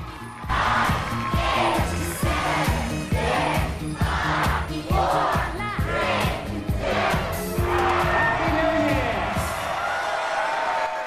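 A large crowd roars and cheers continuously, a dense wall of voices with rising shouts and whoops that stays loud for the whole stretch, with no single speaker standing out.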